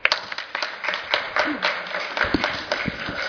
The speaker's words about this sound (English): I'd like to take a moment to congratulate all of our winners again. I think another round of applause would be in order.